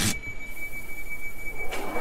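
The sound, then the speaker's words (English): A train pulls away from a station: a steady, thin high-pitched whine rings over a low mechanical rumble, with brief louder bursts of noise at the start and near the end. “This train is ready to depart. Please stand clear of the doors.”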